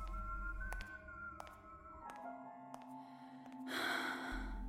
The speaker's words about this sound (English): Breathing. It was all I could hear at first in the cadaver cooler. Hitched, irregular, close, all around me. At some point, I realized it was only me.